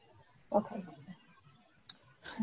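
A few scattered clicks and taps of someone typing on a keyboard over an open phone line, irregular and fairly faint, with a brief muffled voice-like sound near the start.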